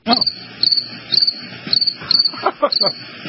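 cricket chirping sound effect

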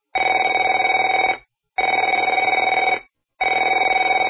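telephone ringing

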